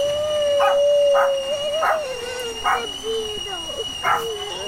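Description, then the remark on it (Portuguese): A dog howls in a long, wavering drawn-out note while several short, sharp barks break in at uneven intervals, clear. “A chuva chovia, o cachorro latia, a bruxa tremia, a chaleira gemia.”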